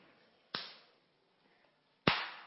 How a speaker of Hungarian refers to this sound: Ha körhöz értek, tilos kimondani azt, hogy kör, hanem tapsolni kell egyet.